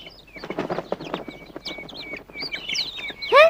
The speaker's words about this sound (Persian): پیتر اونجا رو نگاه کن. یه دسته پرنده. اولین دسته یه پرنده ها برگشتن.